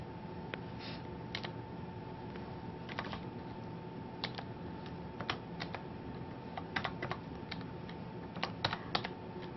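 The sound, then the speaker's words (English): Irregular bursts of computer keyboard typing while private IP address ranges are entered. Quick clicky keystrokes come in short clusters with pauses between, moderately quiet over a low steady hum. “Sorry, having a bit of a problem with this keyboard.”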